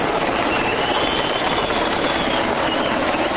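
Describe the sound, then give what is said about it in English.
A loud, steady mechanical roar of a helicopter engine and rotors fills the whole stretch, a dense, unbroken wash of noise with no voices, as a helicopter carrying Yasser Arafat's remains touches down at his Makata compound in Ramallah. “By the time the helicopter carrying the remains touched down, the Makata had become a sea of bodies, and it was difficult to see where the helicopters would be able to land.”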